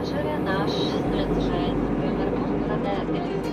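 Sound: airplane cabin noise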